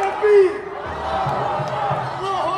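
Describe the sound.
A crowd of pro-Hamas protesters cheers and shouts together over Iran firing drones toward Israel, a dense, steady roar of many overlapping voices that stays loud throughout, with a few sharper yells rising above the mass.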